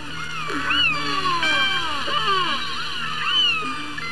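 Killer whale calls, clicks and whistles recorded underwater with a hydrophone: many overlapping squealing tones that sweep up and down in pitch, continuing steadily for the whole stretch with a faint hiss beneath and no talking.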